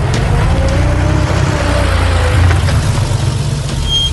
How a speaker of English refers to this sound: They walk just a few feet when a white Buick pulls up.